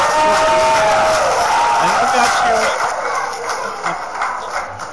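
Canned cheering from a crowd, a dense wash of shouts and whoops with a few whistles, loud and steady before tapering slightly toward the end.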